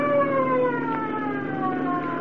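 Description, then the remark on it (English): A police boat's siren wails loud and steady with slowly gliding tones as the boat approaches on a river, with no voices present. “Here comes a police boat.”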